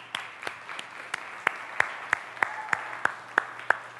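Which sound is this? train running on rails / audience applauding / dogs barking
audience applauding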